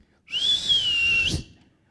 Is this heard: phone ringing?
no